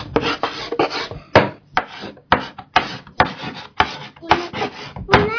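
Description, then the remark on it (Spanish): Chalk scraping on a blackboard in a series of about ten short, gritty strokes, each a dry rasp with brief pauses between, fairly loud and with no voices present. “Muy bien, es verdad, una tiza.”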